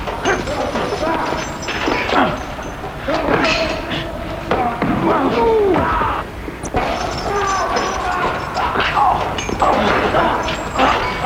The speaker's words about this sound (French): Les quatre hommes se battent avec fougue, à coups de poing, de pied.